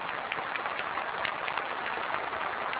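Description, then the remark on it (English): Dense, steady applause from a large crowd of NPC deputies as Premier Zhu Rongji walks to the podium to deliver the government work report, a continuous wash of many hands clapping at an even level throughout, with no voices heard over it. “Overwhelmed by applause from the deputies, Premier Zhu Rongji is walking to the podium to deliver the government work report, his last as Premier to the NPC.”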